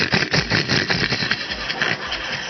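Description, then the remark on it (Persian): A person laughs in rapid, rough sputtering bursts that mimic a car engine cranking and trying to start, loud, with a rattly, engine-like texture throughout. “بعضی ها مثل استارت ماشین میمونن اینجوری میخندن.”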